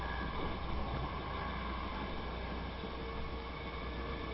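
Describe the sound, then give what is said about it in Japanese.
Steady, unbroken running noise inside a moving JR Central train bound for Shin-Osaka, stopping at Nagoya and Kyoto: a deep low rumble under a broad rushing hiss, with a few faint steady hums, holding at an even level throughout. No one speaks. “この電車の停車駅と到着時刻をご案内いたします。”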